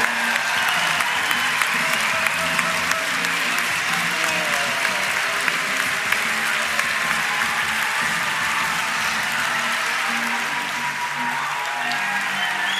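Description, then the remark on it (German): Sustained applause from a large audience welcoming Oliver Rohrbeck, a dense, steady wash of clapping that stays loud and even throughout, with faint crowd murmur mixed in. “Dein Applaus, Olli.”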